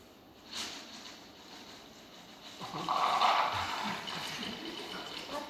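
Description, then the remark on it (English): Drinking water is poured into a cup, a soft trickle that swells into a steadier, brighter stream for a couple of seconds before easing off. No one talks. “Anybody want a drink of water?”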